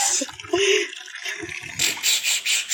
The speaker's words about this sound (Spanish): Ese es el sonido del bochinchi, que es el agua que se mantiene en la boca y luego con la presión de dos dedos, el omoflete se tira fuera. Se tira unos a otros.